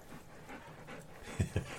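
dogs panting

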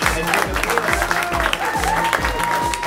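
audience applauding

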